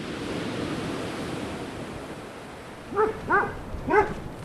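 Three or four sharp dog barks ring out in quick succession toward the end from the dogs Wilbur and Dodie as they step out of an old farmhouse beside a new coastal seawall, over a steady wash of surf and wind outdoors, with no one speaking.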